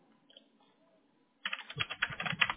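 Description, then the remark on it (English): After a quiet moment, a burst of rapid computer keyboard typing begins, with quick, irregular clicks of keys, as someone searches for a company's Google Business profile by its name and zip code. “And typically, if I'm searching for your company by name, I'm even putting your zip code, it should pop right up.”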